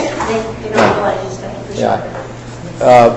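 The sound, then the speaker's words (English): A door handle rattles and clunks three times, spaced about a second apart, as if someone is trying to open a locked door, with a muffled voice underneath. “Someone's trying to get in the door.”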